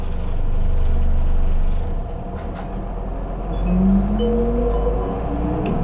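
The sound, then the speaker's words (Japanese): A bus engine rumbles and revs up as the bus departs from a stop after its doors close, with a rising engine tone and a hiss of air, heavy low-end noise filling the whole stretch. “扉が閉まります。 発車します。”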